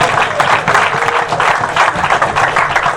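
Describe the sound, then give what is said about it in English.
A crowd applauding steadily, a dense, even wash of many hands clapping together at a strong, sustained level for a few seconds, with no speech over it. “Clap again.”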